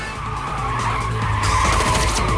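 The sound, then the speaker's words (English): A sports car driven by Stan roars at speed through a junction with a black car not far behind, its engine loud and steady, while tyres skid and squeal in a sustained screech that intensifies toward the end. No one speaks. “Stan charges through a junction with the black car not far behind.”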